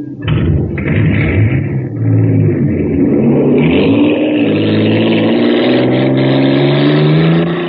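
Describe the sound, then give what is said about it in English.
The engine of the Shooting Star, a racer supercharged with super fuel in an aquajet boat race on Mars, roars and accelerates, its loud, steady pitch climbing as it revs higher, with a rising whine layered over the throaty rumble and no voices. “Wow, look at the shooting star go. Bound to be a winner now because she's supercharged.”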